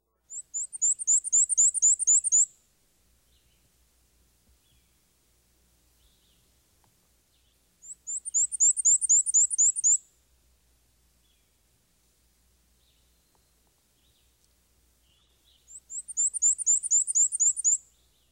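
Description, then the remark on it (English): A black-and-white warbler sings three times, each song a high, thin, squeaky series of rapid two-note phrases lasting about two seconds, separated by long quiet pauses with no other sounds. “This warbler's song is a repetitious, two-noted, wheeza, wheeza, wheeza, wheeza. Here's the black and white warbler again.”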